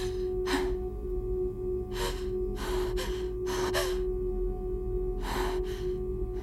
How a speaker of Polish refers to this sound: Pitt stał do nich tyłem i oddychał ciężko.